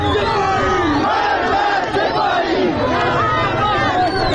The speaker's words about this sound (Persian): این جمعه هم فریاد مرگ بر خامنه‌ای و مرگ بر سپاهی خیابان‌ها را پر کرده بود.